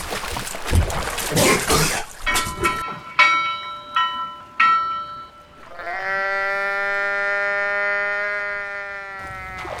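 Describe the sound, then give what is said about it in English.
A sheep, bobbing to the surface of the ocean's rising tide, wheezes and gasps for air in ragged, breathy bursts, then a few ringing tones sound before a long, strained bleat holds steady for several seconds. “And then the sheep, suddenly free of her attacker, bobbed to the surface, wheezing and gasping for air.”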